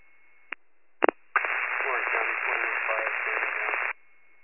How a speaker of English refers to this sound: It's all radio static.